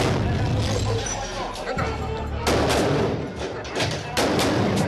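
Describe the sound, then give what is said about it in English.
Gunfire crackles through a shootout as Marines force their way through a metal door into a safe house, captured on helmet cam video, with several loud, sharp bursts and rapid shots breaking over a dense, rumbling wash of noise. “A shootout ensues, but Chapo is gone.”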